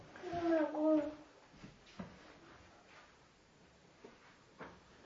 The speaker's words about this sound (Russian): Папа, дверь закрыта. Дверь закрыта. Да. Подкрой дверь.